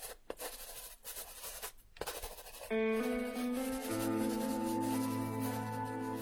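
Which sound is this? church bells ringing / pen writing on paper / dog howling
pen writing on paper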